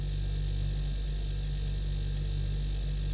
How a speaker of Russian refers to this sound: А на самом деле я у себя дома и уже слышу этот тихий гул холодильника.